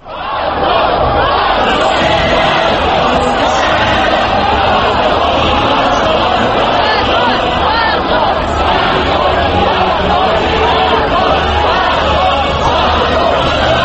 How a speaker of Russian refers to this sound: Гимн России под крики демонстрантов на Триумфальной площади в Москве, вероятно, одна из самых красочных картинок этих событий. Гимн был запущен через динамики на проходившей по соседству акции прокремлевских молодежных движений